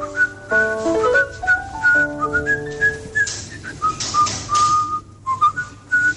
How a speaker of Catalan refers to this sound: xiula molt bé la sintonia de El Bosque de Brendon.